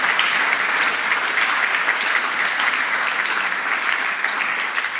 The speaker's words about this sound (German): Und mal einen tosenden Applaus, das finde ich so cool.